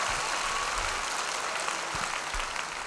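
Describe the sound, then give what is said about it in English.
A crowd claps steadily for about three seconds for a show's vocal group, a dense, even wash of many hands with no pauses and no voices over it. “A little bit of applause for the vocal group.”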